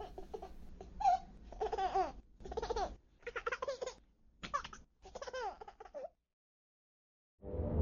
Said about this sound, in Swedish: Det finns ingenting som låter härligare än barnskratt. Bebisar som skrattar. Om det inte är klockan 1 på natten och man är ensam hemma.